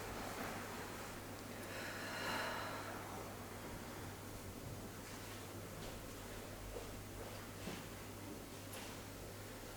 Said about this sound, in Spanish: Hoy hacemos una gran inhalación. Exhalamos todo del área de los pulmones.